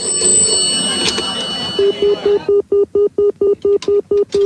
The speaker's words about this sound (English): The phone rings in a pub.